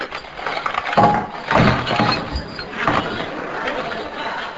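A jumble of clattering and clinking as the many small hard objects in a drawer are tipped out onto a table in a couple of noisy bursts, settling into scattered rattles.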